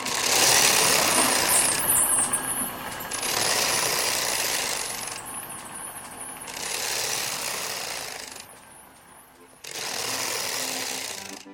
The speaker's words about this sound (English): the noise made by a knitting machine.